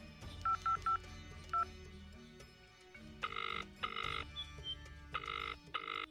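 A few quick keypad beeps as a phone number is dialed to call a doctor, followed after a pause by a loud, buzzing double-pulse ringing tone repeating twice. No one speaks.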